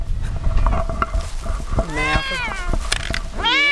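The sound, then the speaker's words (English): A cat meows loudly, two drawn-out, wavering meows, the second rising sharply at the end, over a rumbling, noisy outdoor background. “Beautiful looking cat, even though I hate cats.”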